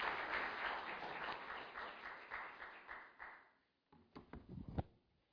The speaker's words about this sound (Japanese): 大きな拍手でお迎えしましょう。